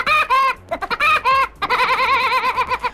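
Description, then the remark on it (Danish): The laugh of the cartoon woodpecker Søren Spætte, who first appeared in the 1940 American cartoon Knock Knock: a loud voice letting out rapid, warbling high-pitched bursts, a few short chopped phrases followed by a long trilling cackle, with no other talk. “Og det der grin, det er faktisk ikke bare amerikansk.”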